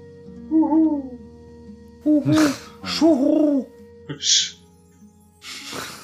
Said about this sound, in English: That's how eagles sound.